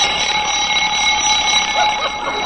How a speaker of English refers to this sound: I must have hit the button on my alarm clock.